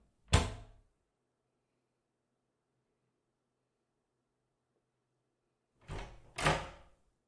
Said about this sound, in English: I'm gonna go to my room and close the door, okay?